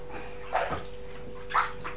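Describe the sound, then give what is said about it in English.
Bath water splashes and pours in two brief bursts, about a second apart, as bubbles are rinsed out of hair in a bath, over a low steady hum, with no talking. “Keep your head back, Ruby. Your bubbles will go in your eyes.”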